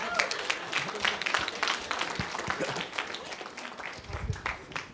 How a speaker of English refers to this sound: Oh, please. Oh. Wow. A round of applause.